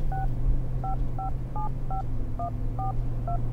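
Eight short touch-tone beeps as a mobile phone number is keyed in to call someone, evenly paced and clear, over a steady low hum with no one talking.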